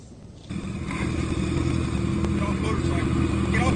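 A motorcycle engine kicks in after a brief lull and holds a steady, loud drone, mixed with rushing wind noise, recorded on a camera attached to the rider's helmet as he is stopped for speeding by a police officer in an unmarked car in Maryland.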